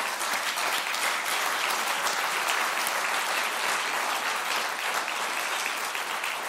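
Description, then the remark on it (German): Sustained audience applause, a dense steady wash of many hands clapping at a fairly loud, even level throughout, with no voices standing out. “Und vielleicht können wir einfach mal den Moment nutzen und den Leuten Applaus zu geben.”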